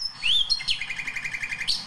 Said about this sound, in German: ich neulich einen Vogel gehört habe, von dem ich dachte, das gibt's ja nicht, das muss eine Nachtigall sein, auch extrem virtuos.